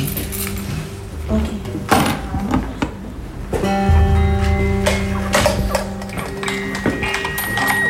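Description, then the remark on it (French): A heavy prison door past the entrance airlock is unlocked and opened by a guard, with sharp metallic clunks, a jangle of keys and a steady electric buzz from a triggered bell setting in midway, with faint murmuring voices around. “Là, il y a une sonnerie qui s'est déclenchée et le surveillant est venu ouvrir la porte.”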